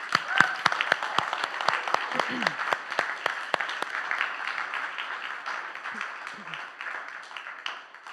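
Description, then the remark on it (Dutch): A standing crowd applauds as a clap offering to God, many hands clapping in a dense, even patter with sharper claps standing out early on, gradually thinning slightly toward the end; a few faint voices murmur underneath. “Om even een klap offer te geven aan God.”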